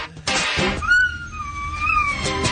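A dog named Riley howls along to a pop song, holding a long, wavering high-pitched note that slides slightly up and down over the steady music.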